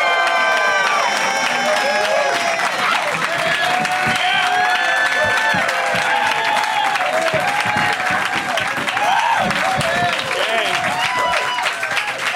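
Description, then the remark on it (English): A live audience in Pittsburgh bursts into sustained, loud applause as comedians Matt Bronger, Gareth Reynolds and Steph Tolev are introduced, with cheers and whoops rising over the dense clapping, holding steady for about twelve seconds with no one speaking. “What a great venue and a great crowd.”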